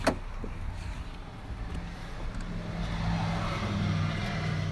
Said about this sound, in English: You can hear the cars buzzing around me.